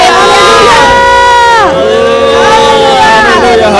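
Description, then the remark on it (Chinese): A large audience shouts and cheers together in praise of God, many voices rising and falling in sustained, loud acclaim, with a dense rumble of stamping feet underneath. “弟兄姐妹们，我们一起用脚声、欢呼声来赞美我们的神。”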